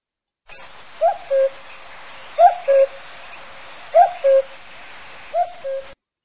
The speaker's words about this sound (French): Le chant du coucou n'a pas besoin d'être décrit.